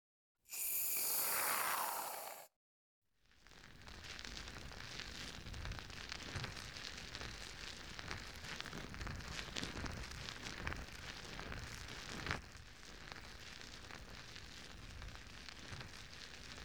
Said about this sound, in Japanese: じゃあ、お耳のマッサージからやっていこうかな。まずはふわふわの泡で綺麗にしていくからね。